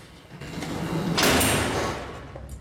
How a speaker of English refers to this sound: After closing the cell door, she passes through another one on her way out.